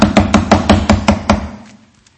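Someone raps on the door of an army scripture reader's hut at almost midnight in a quick, even series of about eight solid knocks, each with a dull low thud, before the sound trails off into quiet. No one speaks.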